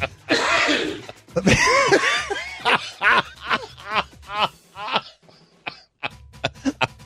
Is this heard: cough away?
yes